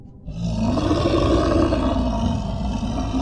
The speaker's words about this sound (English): The monster's face was twisted with rage, its eyes wild and unfocused, mucus and saliva dripping from its lips. Gross. As it roared and lunged towards her.